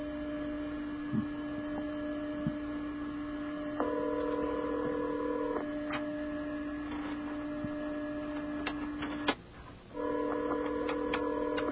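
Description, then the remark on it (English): A telephone ringing tone heard over a phone line during a call to a television station in Washington, with two long tonal bursts separated by a pause, over a steady electrical hum and faint ticking. No one speaks. “It's ringing.”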